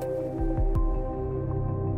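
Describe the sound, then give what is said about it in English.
A few soft crinkles and squeezes of an opened plastic water bottle, reached for by someone seated in a living room, over a steady low background hum, with no one talking. “You remain seated in the middle of the living room and reach behind you for a bottle of water you opened earlier.”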